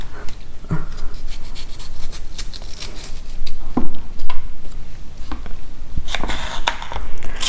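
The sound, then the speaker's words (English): Sharp knife cuts against a board at an uneven, unhurried pace, with scattered single chops and a denser burst of quick strokes near the end. No one speaks. “I am slow, but I'm enjoying it, the chopping.”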